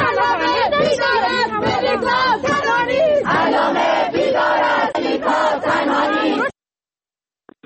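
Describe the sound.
Students of the Faculty of Literature at Allameh University chant slogans, including "Allameh is awake, Melika is not alone," at a protest gathering on campus. Loud, rhythmic bursts of many voices repeat for several seconds before cutting off abruptly into silence.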